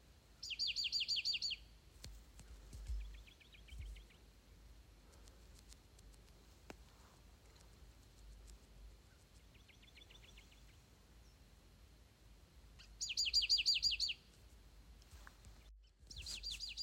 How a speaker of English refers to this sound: Okay, so we have these two birds, the exact same bird. They're talking to each other right now. One is like over to our left. One is over to our right. And we don't know which birds these are quite yet.